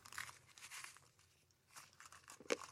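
Close-up crunching on a potato chip: several crisp, crackly bites in quick bursts, with a sharp loud snap near the end, no talking.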